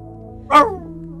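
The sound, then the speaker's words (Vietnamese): A dog named Mực gives one sharp, fairly loud bark on a dark, cloudy, rainy night, cutting through a faint, steady low hum that continues before and after it. “Những đêm như thế, buồn, cô đơn, run lạnh, lâu lâu mực gâu gâu sủa lên vài tiếng.”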